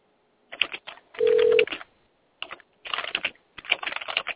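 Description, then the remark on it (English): Fast, loud typing on a computer keyboard next to a microphone, in rapid bursts of clattering keystrokes separated by short pauses, with a brief steady electronic beep partway through. “You are typing fast.”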